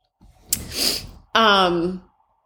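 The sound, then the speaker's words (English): An English cream golden retriever breathes hard right next to the speaker: one loud, breathy huff, then a short voiced groan or whine that tapers off. No one speaks. “if you can hear heavy breathing, no, that is not me. Our dog, Red, is he's an English cream golden retriever”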